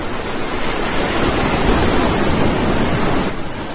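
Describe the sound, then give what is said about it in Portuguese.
Continuous rushing wash of sea waves breaking on a rocky shore just below the listener's feet, loud and close, with a broad hissing roar that swells slightly in the middle and eases toward the end; no voices. “Olhou as ondas que rebentavam pouco abaixo de seus pés.”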